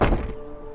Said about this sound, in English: opens the front door of her house and exits.